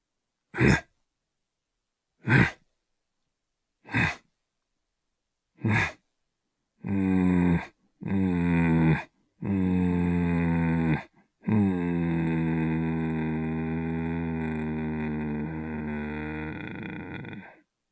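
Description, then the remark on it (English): A voice imitates a leopard during a guided breathing exercise: four short, breathy coughing chuffs spaced evenly apart, then a run of deep, rasping growls, the last one drawn out for several seconds, unaccompanied. “Bring in the leopard growl, or the leopard cough.”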